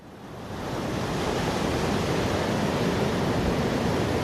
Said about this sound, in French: Des vagues qui peuvent atteindre 1 mètre de haut et qui se déchaînent contre les devantures des boutiques